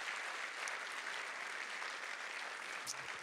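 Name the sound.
audience applause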